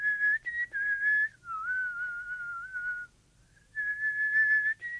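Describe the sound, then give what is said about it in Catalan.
A person whistles a melodic tune in a cloister, clear, with sustained pitched notes shifting up and down, a brief pause near the end, then the tune resumes. “de manera que una tarda, anant al pare Ambrós xiulant pel claustre...”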